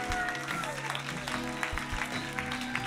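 An audience at a church service claps steadily and fairly loudly as a group walks off, a dense, continuous wash of applause with sustained musical tones playing underneath.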